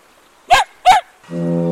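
Two short, harsh honking bursts, then a deep, steady foghorn tone rich in overtones that swells in and holds to the end, sounding as the marine layer thins.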